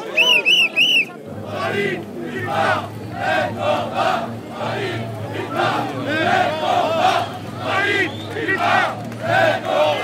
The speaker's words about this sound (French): Voilà, les salariés de Fralib et de Pilpa, Fralib, Pilpa, même combat, qui sont chaleureusement applaudis là, à l'arrivée sur la place de la Nation. Et les manifestants là qui leur font une aide d'honneur, les salariés de Fralib et de Pilpa.